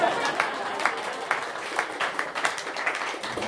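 A crowd applauds steadily, many hands clapping in a dense, continuous patter with sharp transient peaks, sustained at an even, moderate level throughout.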